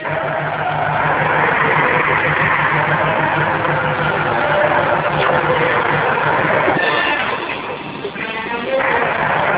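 A loud, steady engine drone hums continuously with a deep low throb and a broad hiss on top, briefly easing near the end before resuming, as a spaceship's engine runs with all power diverted to it and the ship picks up speed.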